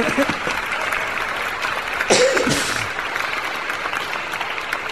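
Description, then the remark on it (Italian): Steady applause from a group, a dense crackle of many hands clapping continuously for the whole stretch, with a brief voice rising over it midway. “Questa è una cosa molto bella, virtuale, ma glielo facciamo, l'applauso.”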